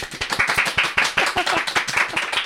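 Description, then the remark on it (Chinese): A small group clapping hands, a quick run of sharp, fairly loud claps in a steady, slightly uneven rhythm with no voices over them. “对，当然吧， 鼓掌。”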